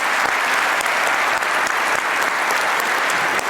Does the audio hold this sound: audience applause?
yes